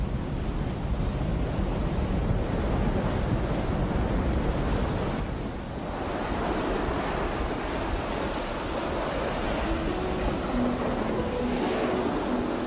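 Steady roar of sea waves washing in continuously, broad and fairly loud, with a brief lull midway and a faint breezy hiss on top. No voices are heard.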